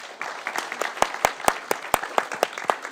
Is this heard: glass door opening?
no